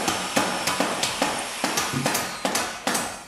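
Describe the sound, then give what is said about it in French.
Repeated hammer blows from upstairs neighbours renovating ring out in a steady, slightly uneven rhythm, roughly a dozen sharp impacts over a few seconds, moderately loud with no voices. “ou tes voisins d'en haut qui ont décidé que c'est la journée idéale pour rénover.”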